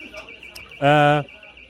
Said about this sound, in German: Ja, ich würde sagen, wir machen mal eine kleine Pause, bis hier der Alarm vom Notausgang ausgeht.